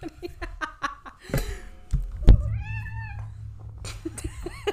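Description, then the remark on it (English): A female cat lets out a long, drawn-out meow in protest at being held, loud, with people laughing and talking briefly around it. “She hates it. She hates being held. Why? She's... garbage. She's a garbage cat.”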